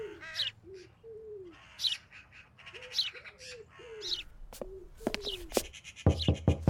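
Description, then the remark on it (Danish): A mix of urban birds calling at once in a park: repeated low, soft cooing notes of a wood pigeon under bright, busy house sparrow chirps and harsher crow and magpie calls, with sharp clicks toward the end. “Skader, kraver, gråspurve. Yes. Og måske en skovdue også, nu hvor der er park.”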